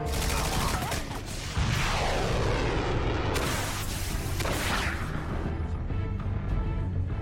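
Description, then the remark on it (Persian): Dense, continuous, loud roar of rocket launches and explosions as three missiles are fired from the Henan, with sweeping whooshes of projectiles passing over a constant rumbling barrage. “سه تا موشک از هنان شلیک شدن.”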